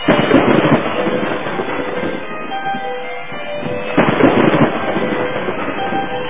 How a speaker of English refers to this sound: The lights have gone out, and as the crashing of thunder rumbles around the arena, this entire place has been bathed in a dim purple glow.